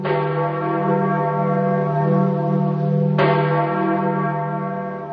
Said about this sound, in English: A few minutes later, the bells of St. Peter's Basilica tolled the death of the Bishop of Rome.